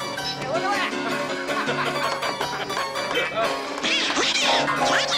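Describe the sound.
A cartoon duck voice quacks and sputters unintelligibly in rapid, squawky bursts, loud, running continuously for several seconds over a busy, cluttered background.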